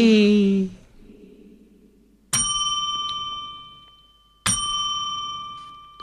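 A temple bell is struck twice, about two seconds apart, each strike ringing out clearly and fading slowly, following a brief trailing voice at the start.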